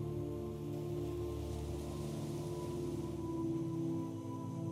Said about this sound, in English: This barrier is protecting your island and causing the waves to break on it. Listen to the waves as they break on the rocks.